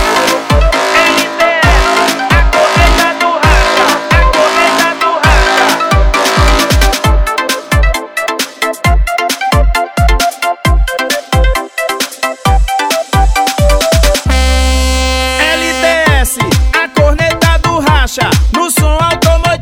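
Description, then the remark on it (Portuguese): Loud music blares from an LTS car audio horn speaker, bright and piercing in the mids and highs, driven by punchy, steady bass thumps. It plays continuously, with no voices. “LTS, a corneta do racha. No som automotivo, é a que mais se destaca.”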